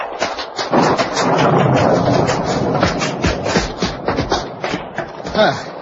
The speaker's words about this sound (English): The rain's getting at us even through the trees.